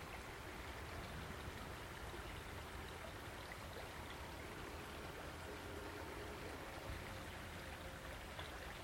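A fast-flowing river rushes steadily from right to left, a dense, continuous wash of water noise that fills the whole recording without pause or change, fairly loud. The river has a strong current and runs from mid Wales to the Bristol Channel.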